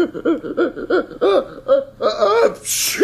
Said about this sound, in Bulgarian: Той киха по 50, 100 пъти подред. И всяко кихане става по-добър.